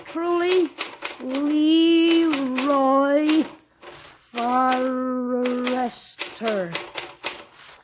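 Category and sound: machine, typewriter typing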